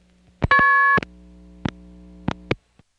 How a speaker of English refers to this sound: By the way, this sound is TSPS returning my coins, or trying to return any coins that might be there. That tone is actually the same tone as the MF key pulse tone.